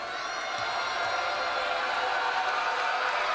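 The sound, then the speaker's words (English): A loud, sustained roar from a basketball arena crowd during the second quarter of a Penn State versus Wisconsin game, a dense wash of cheering voices that holds steady throughout with no single voice standing out. “Crowd loud here.”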